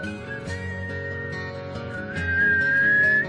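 whistled melody

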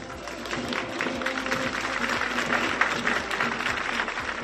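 crowd, applause

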